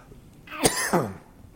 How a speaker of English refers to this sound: Oh, we're back to the cough. A little explanation so you'll be a little understanding if you're visiting with us. I almost overcame the cough. It's a result of blood clots after surgery.